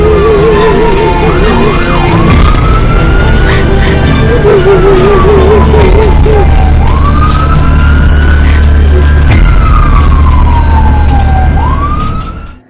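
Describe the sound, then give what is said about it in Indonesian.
A loud wailing ambulance siren sweeps up and down in long repeated cycles over a steady low engine rumble as the ambulance is driven fast, fading slightly at the very end. “Tak mau berlama-lama, aku pun bergegas memacu ambulan yang aku bawa.”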